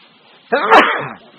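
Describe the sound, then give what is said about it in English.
A single sharp sneeze bursts out, a brief breathy intake snapping into a forceful explosive release, then fading quickly into quiet with no talking. “Bless you. You just did that.”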